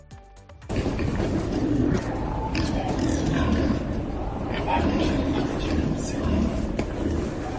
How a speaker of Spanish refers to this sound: Pues sí, el sonido es lo que parece. Gruñidos de los jabalíes por la ciudad vieja. Varios vídeos dan fe del recorrido de los animales por la parte noble de la ciudad.